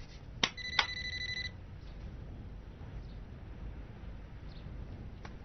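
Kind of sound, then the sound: signal or alarm, telephone ringing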